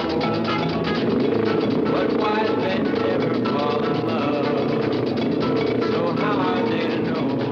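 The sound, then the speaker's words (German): A steady, loud stretch of music from the 1964 film Scorpio Rising, with a sung melody over a dense, rumbling low end of motorcycle engines as men in biker outfits ready their motorcycles for a race, with no pauses or breaks. “Man hört aber Musik und eben diesen Motorrad-Sound.”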